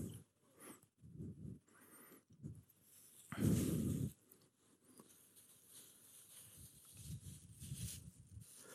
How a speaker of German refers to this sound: Aber was wäre denn, wenn wir jetzt einfach mal gucken, ob ich die Tüte hier aufbekomme?